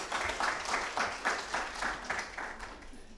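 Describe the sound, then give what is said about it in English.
A crowd applauds its volunteers and helpers steadily for about three seconds, a dense wash of clapping with a loose, pulsing rhythm and no voices over it. “A round of applause for all our volunteers and helpers.”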